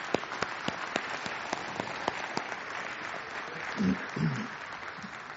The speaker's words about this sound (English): Can you just say thank you with a round of applause to these guys?